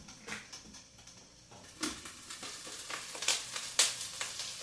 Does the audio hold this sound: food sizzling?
yes